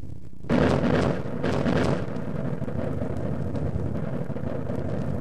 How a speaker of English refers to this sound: The sound of the explosion finally caught up with us. Out of the great silence came a mighty thunder. It was the blast of thousands of blockbusters going off simultaneously at one pinpoint.